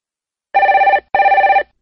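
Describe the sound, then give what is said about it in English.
A telephone rings twice in a classic double ring, each burst a loud, warbling electronic trill separated by a short pause, with no voices present; a call from Nelson to Southern Rental Car. “I'm ringing from Nelson, but I'm coming over to Auckland for 12 days and I'd like to hire a car.”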